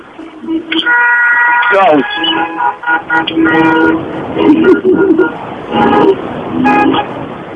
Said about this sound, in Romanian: Acum vrem să vedem acolo în piață la... În intersecție la Brâncoveanu câte lume vă claxonează.